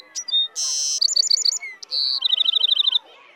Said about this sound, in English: Point to Ted. Can you sing for me, little bird?